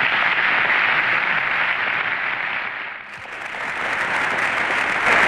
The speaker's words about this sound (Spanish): En este momento aplaude de pie la presentación del … y especialmente de …. Prolongados aplausos de emoción, de alegría y también de despedida a quien nos mantuvo la moral en alto.